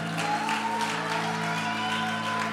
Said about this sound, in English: Can we give Jesus another round of applause?